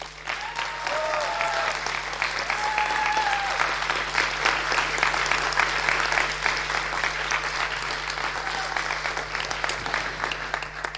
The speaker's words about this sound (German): Komm, ihr holt jetzt wirklich nochmal alles kräftig raus, und zwar indem ihr einen Applaus an all die Engel der Bits und Bäume gebt, die uns freiwillig unterstützen. Kommt.